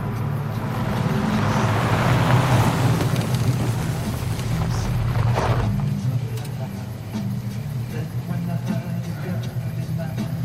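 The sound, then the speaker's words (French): The engine of a Ford Falcon, a 1958 or 1959 model, rumbles as the car rolls into a parking lot and stops 8 metres away, then the engine note drops off after about six seconds, leaving a quieter low hum. “La voiture se gare à 8 mètres de distance.”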